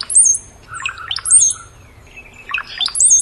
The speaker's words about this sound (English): The sound of the brown-headed cowbird almost sounds like an electronic device when you hear it. Very interesting.